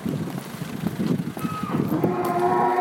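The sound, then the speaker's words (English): A cow moos loudly, a long drawn-out low call rising into a sustained tonal bellow, over a busy background of shuffling and ambient noise inside a farm's cattle shed full of cattle, horses and calves. “So we've arrived in a cattle shed that's full of cattle, horses, there are calves here as well.”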